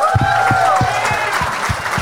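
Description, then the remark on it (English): A live audience bursts into a short round of applause in answer to a call to applaud if they have never seen the film Geely, dense clapping with a few whoops and cheering voices mixed in, lasting about two seconds. “Like, applaud if you haven't seen Geely ever.”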